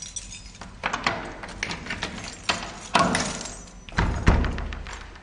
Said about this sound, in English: unlocks the door to his now barren office.